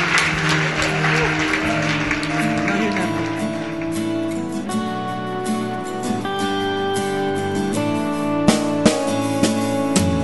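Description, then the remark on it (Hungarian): A large audience at a Christian Community Church (Keresztény Közösség Egyház) gathering claps steadily for several seconds. The dense wash of applause fades as sustained instrumental music rises and carries on to the end. “Adjunk ezeknek az embereknek egy hatalmas tapsot.”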